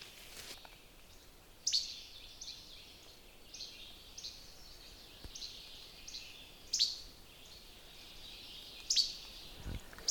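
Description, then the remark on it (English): A least flycatcher, one of many nesting near a garage, gives three sharp, dry, hard mechanical-sounding snappy calls spaced several seconds apart, standing out against a steady, high-pitched background chorus of birds and insects. No one speaks. “That real hard mechanical-like sound is a bird. It's a flycatcher called a least flycatcher.”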